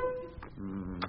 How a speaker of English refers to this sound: All the team members have to drink a traditional yard of ale, and the winner will, by time-honored tradition, be the one who finishes first. Ready, teams? I'll use my buzzer to start you off.